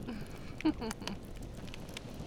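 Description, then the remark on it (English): A quiet bonfire on the beach on a chilly night crackles with a few scattered sharp pops over a low, steady rush, with a faint voice-like murmur in the background. “Because, you know, it's chilly on the beach at night, but the bonfire warms you up.”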